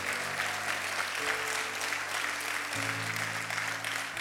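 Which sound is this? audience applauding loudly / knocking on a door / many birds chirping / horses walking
audience applauding loudly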